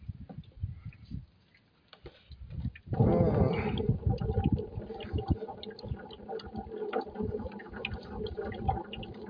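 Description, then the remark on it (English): After a few seconds of low rumbling, cold water from a garden hose bursts on abruptly and keeps running in a steady, rushing spray until the end. “I don't know if it's because I get used to the temperature or if it clears out the hose water, which is apparently a little colder than the water in the thing.”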